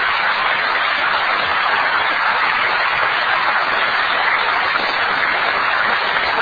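A crowd at a town meeting in Sudbury claps steadily for a speaker for several seconds, a dense, sustained wash of applause with no voices over it, holding at an even level throughout.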